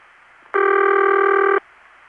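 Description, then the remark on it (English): A single burst of telephone ringback tone on a local call through an Independent (non-Bell System) telephone company, close in pitch to the Bell System's City Ring. It is steady and buzzy with strong stacked harmonics, lasting about a second over a faint hiss, then cutting off cleanly. No one speaks. “Well, the pitch of that tone is very close to the Bell System's City Ring, but it's clearly different.”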